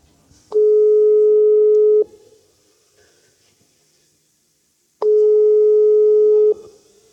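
A WhatsApp call ringing tone plays through a speakerphone: two long, steady electronic beeps about three seconds apart, each lasting over a second, with faint background hiss and no talking.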